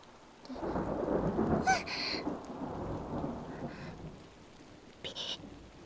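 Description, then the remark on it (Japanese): A deep rumble of thunder rolls in and swells, with steady rain hissing throughout and a few sharp drip-like clicks near the middle; no one speaks. “雷、私小さい時から怖がりで”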